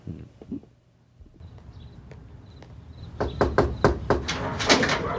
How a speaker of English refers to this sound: and then they knock on the mom's door.